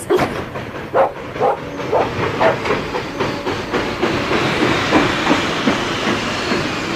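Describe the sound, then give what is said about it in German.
A train rolls slowly into a station, its wheels clacking in a steady, easing rhythm before giving way to a long, rising hiss and rumble. No voices. “Da kommt ja ganz schön lahm angezuckelt.”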